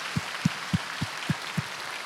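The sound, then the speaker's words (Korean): An audience applauds in glory to the Lord, celebrating Jesus's resurrection: a steady wash of clapping carries six evenly spaced, dull low thumps about a quarter-second apart, like a unison beat. No one speaks. “그래서 여러분 우리 큰 영광의 박수로 우리 주님께 올려드리겠습니다.”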